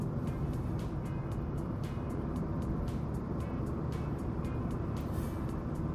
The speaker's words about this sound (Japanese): 車間が狭い、70キロ台のスピードに戻っちゃった。